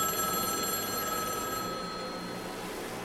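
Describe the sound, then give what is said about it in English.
A telephone on one side of a suite rings with a bright, metallic, sustained jangle that fades away about halfway through, leaving a steady background hiss. No one speaks. “It was the phone on my side ringing this time.”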